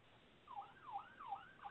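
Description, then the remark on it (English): A faint emergency siren wails in quick rising and falling sweeps, about three cycles, sounding thin and muffled, heard through a caller's phone line on a live radio call-in, with no talking. “If you're hearing a siren right now, it's over the radio. We've got a siren”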